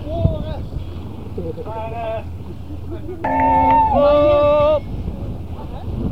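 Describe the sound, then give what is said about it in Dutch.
A boat horn toots loudly at another boat in one long blast lasting over a second, after a couple of fainter, shorter honks, all above steady wind and engine rumble, as the boat sails toward the Houthavens. “Waar even naar getoeterd en geslaagd moet worden.”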